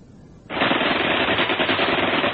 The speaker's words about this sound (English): Rifle and machine gun fire rained on them from above and to their front.